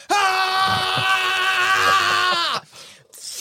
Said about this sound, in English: They're about to raise their weapons to attack this new entity when you hear two voices screaming in unison.